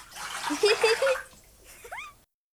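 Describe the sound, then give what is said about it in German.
Water splashes and sloshes in a bathtub where children are bathing in water that has gone cold, for just over a second, busy, then fades; a few short, rising squeaky chirps follow before it ends. “Kinder, euer Wasser ist ja schon ganz kalt und ihr seid noch ganz schmutzig.”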